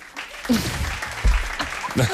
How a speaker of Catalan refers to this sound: Perquè la gent aplaudeix quan acaba una pel·li.